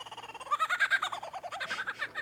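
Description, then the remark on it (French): A male bird mimics the calls of monkeys it shares the forest with: a rapid, continuous run of bright, chattering whoops that rise in intensity and then ripple on at a steady pace, with no talking. “Donc ce sont les mâles qui, pendant la saison des amours, reproduisent tout un tas de sons qu'ils entendent autour d'eux pour attirer les femelles, notamment les chants des autres oiseaux ou des bruits de singes, comme vous allez entendre.”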